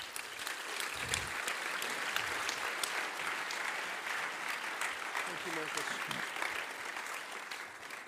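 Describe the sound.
Sustained audience applause welcoming a speaker before his message in Spiez, a dense steady wash of clapping hands lasting several seconds at an even loudness, with faint voices mixed in beneath the clapping.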